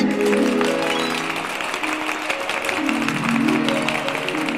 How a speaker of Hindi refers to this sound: इसी बात पे सब बजाओ ताली।